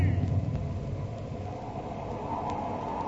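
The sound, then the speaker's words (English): A steady wash of rain hisses continuously beneath a deep, rolling low rumble as a thunderstorm breaks, the sound staying fairly loud and even throughout. “A storm's breaking! And it's raining!”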